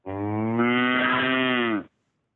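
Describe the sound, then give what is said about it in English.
A single long, loud cow moo lasting nearly two seconds, steady and droning with rich harmonics, heard alone before falling silent. “You ain't nothing but a time cow. Mooing all the time.”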